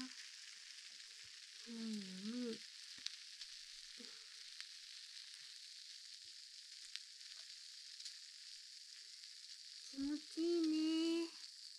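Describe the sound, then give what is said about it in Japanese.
Carbonated shampoo fizzes with a steady, bright crackling hiss that runs the whole time, interrupted twice by short wavering hum-like voice sounds. “あ、次も炭酸シャンプーで炭酸なんだけど、大丈夫かな？”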